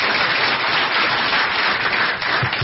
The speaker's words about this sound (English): Let's give Sandy and Cliff a round of applause.